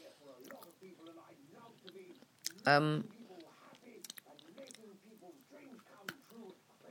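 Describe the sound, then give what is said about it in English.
Chewing of a crumbly shortbread biscuit, with soft crunches and wet mouth clicks throughout, a short loud voiced murmur midway, and faint mumbled speech under the eating. “Excuse me eating shortbread biscuits. I've nearly finished this one now.”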